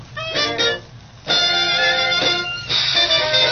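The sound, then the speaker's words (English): A crackly old Dixieland jazz record from the Great78.archive.org archive plays, muffled and thin, with hiss underneath; a few short brassy phrases open before the full band swells in, loud and bright, horns holding sustained notes. “You're going to get some snap crackle and there we go.”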